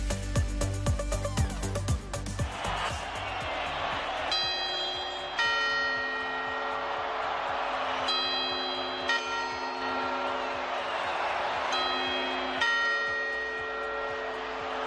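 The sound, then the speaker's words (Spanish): Clock tower bells ring the quarter chimes before the New Year's Eve midnight bell strikes of 31 December: a clattering, rattling mechanism first, then about five loud, resonant bell strikes at a steady, unhurried pace, each leaving a long shimmering hum. “Estos son los cuartos, no nos confundamos, que vamos con las campanadas.”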